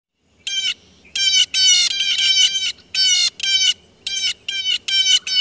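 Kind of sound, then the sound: bird, blue jay call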